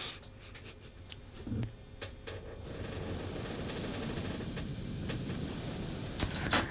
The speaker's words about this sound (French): Mais ça fait très bruit blanc. T'as un peu comme t'as la radio, puis rien qui passe.